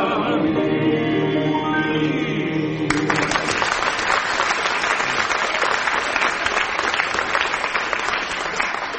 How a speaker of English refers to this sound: applauding yourselves, aren't you, out there?